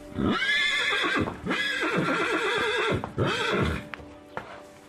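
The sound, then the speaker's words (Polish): A horse whinnies in loud, shaky bursts that rise and fall over several seconds, followed by a few sharp hoof clops on a hard surface near the end. “Ważnym bohaterem jego opowieści, również na łamach prasy, jest koń.”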